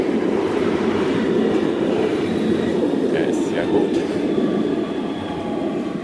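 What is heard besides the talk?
S-Bahn commuter train passing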